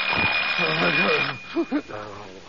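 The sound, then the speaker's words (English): An alarm clock in a bedroom rings loudly early in the morning at 7 o'clock with a dense, continuous jangle for over a second, then stops, and a couple of short vocal sounds follow. “The only thing moving is the minute hand of the alarm clock in Daddy's bedroom, as it moves inexorably toward”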